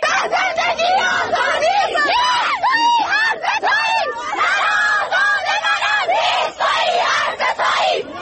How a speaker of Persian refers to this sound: این فریادهای اعتراضی دانش آموزان مدرسه‌ای در تهران پارس.